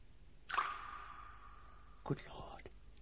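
A small metallic clink rings out and fades, then after a pause a faint, hollow splash lands far below, like a coin dropping into deep water.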